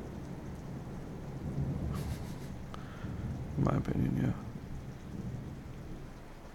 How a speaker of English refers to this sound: I mean, fair enough, it was loud. Yeah, it's probably just means it's getting closer. Well, it's definitely getting closer. 100%. Yeah. And it's late in the season, too. Yeah, storm in November is crazy.